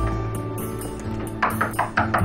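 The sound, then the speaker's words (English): Knocking on a door off a hallway: about five sharp, moderately loud raps in quick succession after a second of quiet, with a steady low hum underneath and no talking. “strolls down the hall, then pauses at a door and knocks.”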